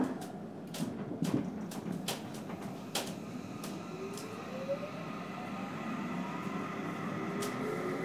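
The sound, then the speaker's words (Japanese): A Seibu Line express commuter train bound for Ikebukuro pulls away from a station after its doors close, its motor whine rising in pitch over a steady rumble, with a series of sharp clicks and clunks in the first few seconds. “発車いたします。”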